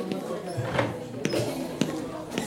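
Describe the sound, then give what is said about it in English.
The door to a patient's room opens with a few sharp clicks and soft thuds spaced about half a second apart, over a low murmur of background sound. “offered a quiet prayer for her soul before opening the door.”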